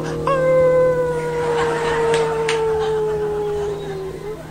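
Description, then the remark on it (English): A single long, dog-like howl rises sharply at the start, then holds and slowly sinks in pitch over about four seconds, loud over a faint steady hum. “When you hear the police sirens in the neighborhood, we'll throw our hands up in the air and we howl for you.”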